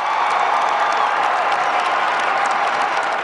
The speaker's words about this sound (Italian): L'arrivo del Papa all'hangar è stato accolto da un applauso dei fedeli fragoroso e insistito, quasi a voler prolungare la permanenza del Santo Padre in mezzo a loro.